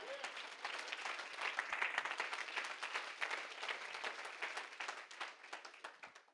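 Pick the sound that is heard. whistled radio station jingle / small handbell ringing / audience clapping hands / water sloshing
audience clapping hands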